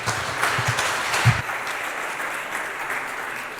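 An audience claps steadily to welcome a speaker before a talk, a dense patter of many hands holding at a fairly even level, strongest in the first moments and tapering slightly toward the end. No one speaks over it.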